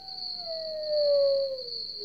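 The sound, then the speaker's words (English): A lone coyote howls once in the distance, a single long, sliding note that slowly falls in pitch, with a thin steady high-pitched whine behind it and no voices; a sound effect played in a studio. “Maybe a lone coyote.”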